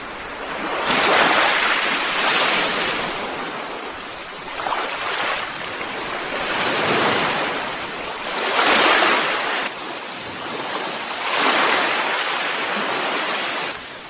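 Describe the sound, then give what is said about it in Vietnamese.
Ocean waves crash repeatedly against the rocks below a beach during a night storm with gale-force wind, rolling in as loud, broad surges every few seconds with a constant roar of surf between them. No one speaks. “Phía dưới bãi biển, những lợn sóng không ngừng dội vang vào gành đá như sấm sét.”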